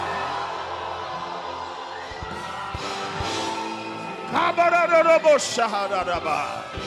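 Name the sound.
audience shouting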